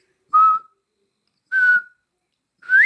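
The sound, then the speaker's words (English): A bobwhite quail calls with three clear whistled notes: two short, level whistles followed by a sharply rising final note, evenly spaced over a few seconds with silence between them. “But yeah, bobwhite quail, just that.”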